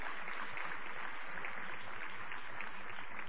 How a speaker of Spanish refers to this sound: También para él un aplauso, evidentemente. El aplauso lógico.